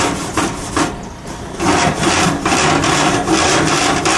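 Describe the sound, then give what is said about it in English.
Harsh, gritty scraping across the grate of a two-burner Charbroil grill to loosen built-up gunk, in quick repeated strokes, a brief lull, then steady rhythmic back-and-forth rasping that stays loud, with no voices. “Loosening up the crap on here.”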